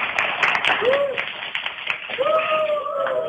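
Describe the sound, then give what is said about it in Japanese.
A group of karate club members applauds steadily for a few seconds in the karate club dojo of Toyo University Ushiku High School, a dense, continuous patter of many hands clapping at once, with a few voices calling out over it. “拍手が起こってますね。”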